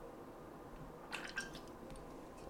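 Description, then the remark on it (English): A quiet sip from a drink: a couple of brief, wet slurping sounds close together, soft against a low steady background hiss, with no talking. “Hold on, I'm going to take a sip of my drink.”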